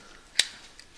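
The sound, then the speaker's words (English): A single sharp metallic clink of Volkswagen car keys, followed a moment later by a much fainter second jingle against a quiet background with no talking. “Car keys, what are they designed for?”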